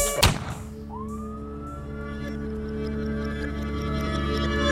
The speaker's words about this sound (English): When you hear them sirens coming, I can hear them sirens coming. Better run when you hear them sirens coming.